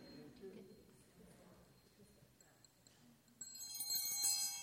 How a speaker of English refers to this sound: So we ring this bell.